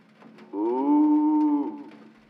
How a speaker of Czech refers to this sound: Na zahradě mi stojí kravohorský s lebkou na hlavě a bučí. Ach, jak trýznivě bučí.